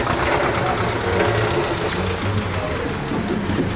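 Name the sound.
tractor engine idling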